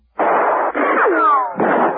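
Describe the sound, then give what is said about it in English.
A loud, dense burst of gunfire, nearly continuous for two seconds, with a brief break and a few whining ricochet-like sweeps cutting through the middle. “Verno and Smarnoff, hearing the firing, gave up banging on the door and returned to the action”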